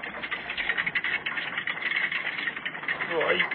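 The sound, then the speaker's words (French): A boat's anchor being winched up: a steady, rapid mechanical rattling and clicking, like chain feeding over a winch, continuous and fairly loud for a few seconds, swelling slightly near the end. “Il remonte l'ancre.”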